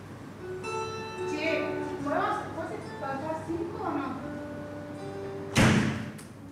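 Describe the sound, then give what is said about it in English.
A door shuts with a single sharp thud near the end, after several seconds of indistinct voices and tonal background sound. “And I'm gonna close that door.”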